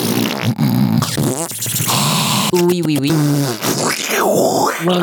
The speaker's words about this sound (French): D'accord, donc évitez les bruits de bouche parasites, je note.